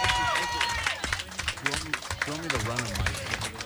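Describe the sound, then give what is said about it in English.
A crowd applauds loudly and steadily for Top Chef contestant Brian Malarkey, executive chef at Ocean Air in San Diego, with dense clapping filling the whole stretch and voices cheering and calling out over the top. “Let's hear it for Brian Malarkey, please.”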